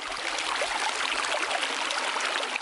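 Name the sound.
flowing river water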